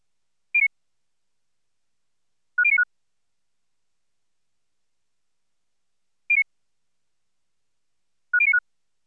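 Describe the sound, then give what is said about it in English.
Two short beep patterns from a tone-order listening test, each a single mid-high tone followed by a quick burst where a two-tone target pair is bracketed by a pair of lower tones of identical frequency. The sequence plays twice, with no talking. “Next, the two-tone target is bracketed by a pair of tones of identical frequencies. Again, the pattern is played twice.”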